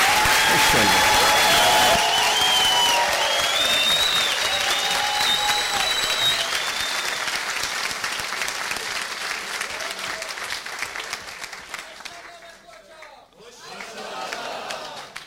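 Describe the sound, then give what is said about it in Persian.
Loud, dense audience applause given in honour of the coaches, with scattered cheering voices on top, gradually thinning out over about twelve seconds before a brief lull and a short final burst. “به افتخارشون یه تشویق درست حسابی بکنید.”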